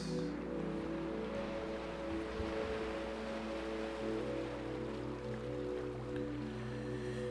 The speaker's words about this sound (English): Be one with the waves that you hear and visualize your happy place.